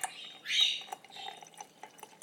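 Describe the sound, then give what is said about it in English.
Coffee pours into a cup in a brief splashing stream that swells and fades within a second, followed by a few scattered light drips and clinks. “I'm just pouring out this coffee.”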